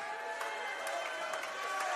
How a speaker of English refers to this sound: It's good to see everybody. I appreciate the encouragement through claps and cheers. And what that lets me know is you have no problem making noise.